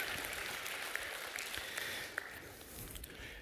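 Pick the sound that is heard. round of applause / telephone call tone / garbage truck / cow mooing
round of applause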